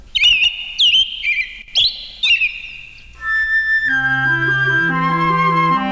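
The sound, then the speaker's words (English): A bird chirps a call to its mate in a quick series of four or five bright, rising-and-falling tweets, clear, before a steady musical accompaniment with sustained tones takes over. “Sing out when he calls his mate.”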